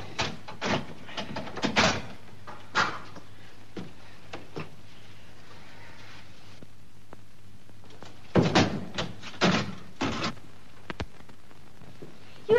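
A door is opened with a run of clunks, rattles and latch knocks in two bursts separated by a quiet pause, with a faint low hum underneath and no talking.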